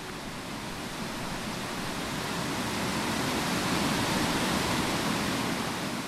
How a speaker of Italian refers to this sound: Era facile, tuttavia, proseguire per il fiume. Bastava seguirne il rumore.